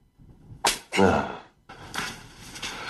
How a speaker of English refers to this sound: Like this. Now, if you can master a slap like that, there's no need for your clients to hold back.